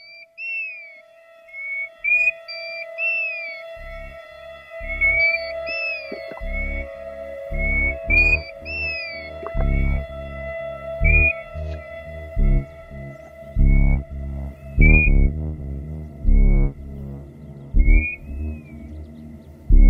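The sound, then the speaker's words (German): Electronic music made with calls of the golden plover and the robin, birds nominated as Bird of the Year by NABU, the German nature conservation union: short, high whistled chirps repeat over a steady sustained tone, and a pulsing low beat enters after a few seconds and keeps a loose rhythm. “Hier hören wir den Goldregenpfeifer und das Rotkehlchen.”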